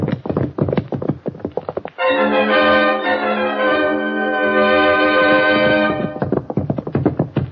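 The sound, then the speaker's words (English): Rapid, rhythmic hoofbeats of a fast horse clatter in the dark at the start and again at the end, broken in the middle by a loud, sustained tonal sound lasting several seconds. “Did you get a look at his horse?”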